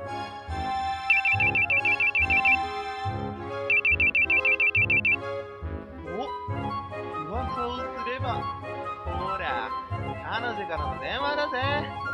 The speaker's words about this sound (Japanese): 彼女からの電話だぜ。